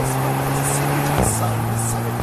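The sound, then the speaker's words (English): A sports car engine roars loudly and steadily, its droning pitch dropping abruptly partway through as if shifting gear, then holding again. “You can actually feel how fast that car can actually go just by the sound.”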